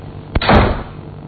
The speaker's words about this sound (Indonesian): Aku mendengar seseorang menutup pintu kamar mandi seperti sedang marah.